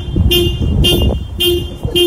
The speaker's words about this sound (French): Enfin, écoutez ce klaxon.